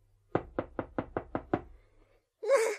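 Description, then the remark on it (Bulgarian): Seven quick, evenly spaced knocks on the latched wooden door of a small white house, fairly loud, followed by a short pause and then a brief burst of a voice at the end. “Вратичката е залостена. Е, няма как. Ще почукам.”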